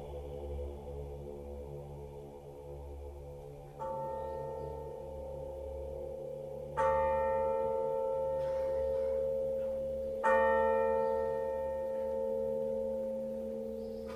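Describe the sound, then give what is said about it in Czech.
A church bell tolls three times from a tower, each strike swelling into a long, ringing tone that layers over the last, above a steady low hum. The clangs are fairly loud and resonant, with no voices. “i ko srce jedno, gde jad ljuti bije, milosno zvono zacikta sa tornja.”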